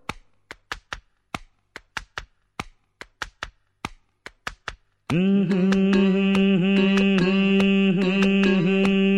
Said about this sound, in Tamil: டே ரொம்ப தட்டாதடா, தாளம் தட்டுறதுக்கு என் தலையை கிடச்சது. மெதுவா மெதுவா.